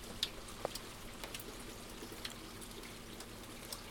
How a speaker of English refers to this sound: It's raining. I woke up on the 6th of July 2025 at 5 o'clock in the morning to the sound of rain.